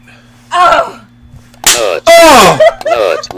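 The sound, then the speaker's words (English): A sharp slap of a hand across a person's face lands with a crisp smack, followed by loud yelling and strained vocal cries. “I will slap you right in your stupid face.”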